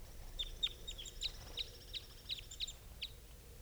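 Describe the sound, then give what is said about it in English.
Repeated short, high-pitched bird calls, about ten chirps in quick succession from two birds, over a low background hum, with no talking. The birds call after being rushed at and escaping capture. “I rushed the birds, and they did not get caught. And these are the calls of these two.”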